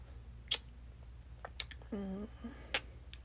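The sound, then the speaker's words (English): Wet, smacking chewing of spicy fufu eaten with the hands, with three sharp mouth clicks spaced about a second apart and a short hummed voice sound in the middle, over a low steady hum. “I'd probably be in timeout for talking while I'm eating because he's almost like OCD and stuff.”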